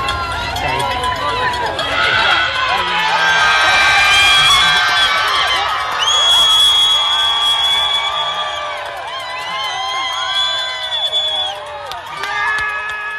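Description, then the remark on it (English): A loud crowd at the London Marathon, about 25 miles in, cheers and shouts continuously as a runner carrying a mini fridge on his back kneels to propose to his girlfriend; high whoops and excited voices overlap in a dense, sustained roar that swells in the middle and stays lively to the end. “And then I will play this tape. You will not be able to hear what he's saying, but you'll get the gist.”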